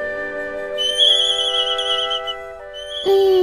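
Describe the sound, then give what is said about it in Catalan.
A stressed bird squawks in a mock advertisement, shrill, wavering whistles over a steady humming tone, fairly loud, with a sharper rising cry near the end and no talking. “De seguida t'he fet un anunci, ara veuràs, però us adverteixo que hi surt un ocell que està una mica estressat.”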